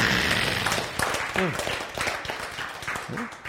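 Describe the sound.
An audience applauds in a dense, steady wash of clapping that holds for several seconds, with a few voices calling out over it.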